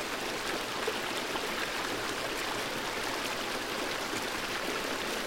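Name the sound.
flowing stream water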